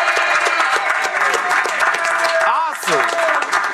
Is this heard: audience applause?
yes